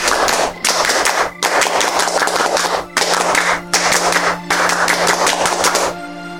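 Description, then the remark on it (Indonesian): A group of scouts claps out the rhythmic tepuk pramuka scout clapping pattern to raise spirits, dense bursts of claps broken by short, regular pauses, loud with no talking. “Mari kita tepuk pramuka untuk menambah semangat. Tepuk pramuka!”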